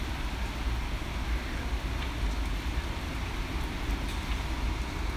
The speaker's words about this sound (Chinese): 有没有听到我这里下雨了？